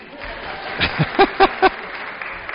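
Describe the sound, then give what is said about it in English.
A steady wash of clapping from a crowd in a hall applauding a parish rector, with a few short, loud voiced cheers bursting out over it in quick succession midway through. “was applauded by everyone, given accolades of praise, shouts of huzzah and go Broncos, and I don't know, rang through the hall.”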